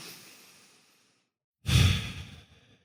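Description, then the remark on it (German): A slow meditation breath, counted in for four and out for four: a soft airy inhale fades out, a brief pause, then a louder, fuller exhale like a sigh trails off. No one speaks. “Ja, den Atem zählen, einatmen für 4, ausatmen für 4.”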